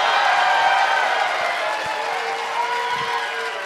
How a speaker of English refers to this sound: Don't clap too hard.